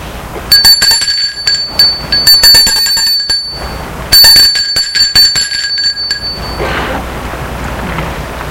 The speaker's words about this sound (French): Où se trouve la petite maison. Et là, elle va sonner à la petite maison.